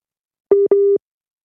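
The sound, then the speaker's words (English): Two short beeps of a steady mid-pitched telephone busy tone after a phone line to a caller in a car dropped, evenly spaced and fairly loud, with silence before and after and no voices. “We may have lost Eric's line.”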